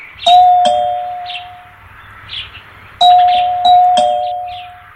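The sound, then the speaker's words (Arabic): A two-tone ding-dong doorbell rings twice, each pair of clear chiming notes fading slowly, with a faint low hum underneath and no voices. “من الطارق؟”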